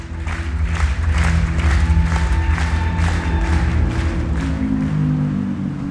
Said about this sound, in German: Das junge Publikum applaudiert stehend.